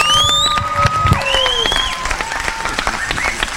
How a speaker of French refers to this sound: Alexandre Fabre, s'il vous plaît, qu'on peut applaudir très fort.